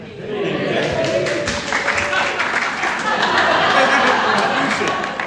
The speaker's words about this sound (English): He gets a round of applause.